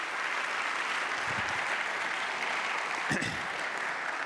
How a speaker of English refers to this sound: I want to give one more round of applause for our volunteers. Thank you. Thank you very, very much.